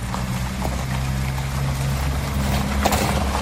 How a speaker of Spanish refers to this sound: El asfalto ha saltado y las piedras se acumulan por la calzada de la calle Quirinal. Escucha cómo pasan los coches por esa zona.